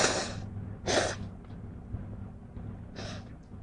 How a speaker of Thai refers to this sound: สั่งน้ำมูกไปมันเป็นหวัด คอไม่ดีเสียงเครือ